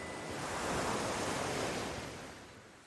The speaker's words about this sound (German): dem unendlichen Rauschen des Meeres, das nun wie ein Ruf klang, tief und unheilvoll.